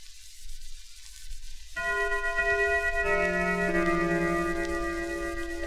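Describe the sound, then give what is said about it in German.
A German clock gong chimes a half-hour strike, transferred from the clock onto a gramophone record: rich, ringing metallic tones enter at once, then a lower note joins, the layered harmonics sustaining and slowly fading, heard alone with light background hiss. “Deutscher Gong, Halbstundenschlag.”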